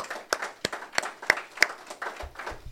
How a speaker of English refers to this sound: The other thing to think about is it takes some real courage to sign up for a residency with a bunch of strangers, and then B, share your work publicly, you know? Let's give a round of applause for that. That's really cool.